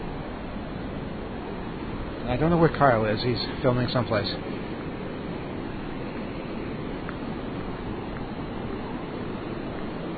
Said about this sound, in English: It's really, really windy. I can hardly describe it. I can hardly breathe because the wind is so heavy. But we're getting closer to the waves. I don't know if we'll hear the waves over the wind, but we can try.